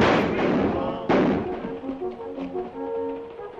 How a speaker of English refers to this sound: The hunters pour from the abandoned carriage, firing their guns.